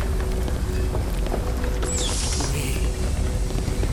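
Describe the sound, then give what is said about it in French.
A heavy mechanical rumble with grinding gears, creaking metal and clattering parts, loud and continuous, as a massive heavy door slowly opens onto the entrance leading to the wreck of the ship Angelus Prime; a brief high metallic squeal cuts through midway. “Dans un fracas de rouages et de métal, la lourde porte s'ouvre pour révéler l'entrée qui mène à l'épave du vaisseau mont.”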